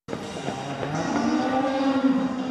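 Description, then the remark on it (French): A cow lets out one long, low, drawn-out moo that swells and holds steady, loud over a busy background of crowd noise, at a cattle exhibition where heifers and cows are paraded before judges to determine a ranking. “génisses et vaches ont défilé depuis hier devant les yeux de juges attentifs pour déterminer un classement”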